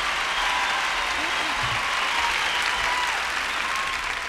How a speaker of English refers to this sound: Thank you so much. I don't want to wear you out with your applause, so I won't ask you to do nothing else.